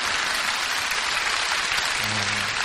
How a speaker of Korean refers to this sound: 원래 박수가 좀 나와야 되는데